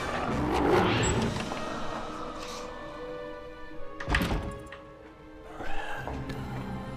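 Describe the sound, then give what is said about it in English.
A heavy door at the end of a tunnel shuts with a solid thunk partway through as someone exits into a castle, followed by a softer knock, over a low, steady ambient rumble. No one speaks. “She exits out a door at the end of the tunnel.”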